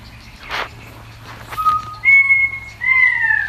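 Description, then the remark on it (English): A pied currawong on the Surf Coast of Victoria, Australia, gives a series of clear, drawn-out whistled notes, fairly loud, after a brief harsh rasping burst near the start and some faint background noise. “Helen, that one is a pied currawong.”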